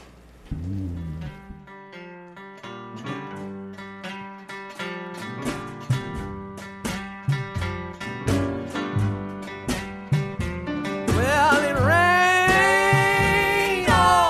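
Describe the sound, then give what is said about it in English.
A song plays on its own: a full band with a steady, punchy rhythm and bright sustained chords, growing louder and busier toward the end as a singing voice seems to come in. “This song is called … by the …”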